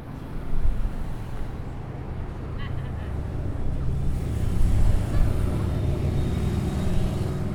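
Outdoor ambience at a dam with a steady low rumble of mild wind gusts, faint scattered chattering bird calls, and indistinct voices of tourists conversing.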